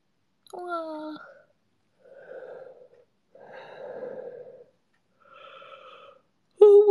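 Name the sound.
yawn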